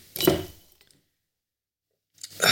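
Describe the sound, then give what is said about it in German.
A beer bottle pops open with a short, hollow plop and a quick fizzy hiss, followed by a pause of silence and then another hissing, fizzing burst. “Basti ploppt. Plopp brav sein Bier.”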